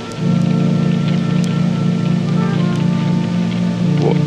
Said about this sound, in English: It's still raining. Why is it still raining?